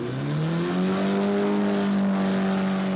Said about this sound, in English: The car's engine is drained of oil and water and someone puts a brick on the accelerator, with people placing bets on how long they think it'll last.